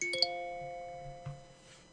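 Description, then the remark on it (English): A bright electronic chime rings out after a countdown, a couple of quick tones whose notes hang and slowly fade, clear, followed by a faint soft knock near the end. “So when you hear the chime after the countdown, what's that chime”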